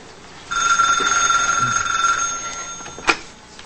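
A telephone rings with a steady, high electronic trill for a few seconds, then a sharp click cuts it off as the receiver is picked up. No one speaks.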